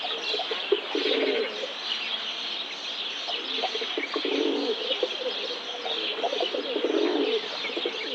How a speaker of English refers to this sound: Feral pigeon, a throaty, amorous coo.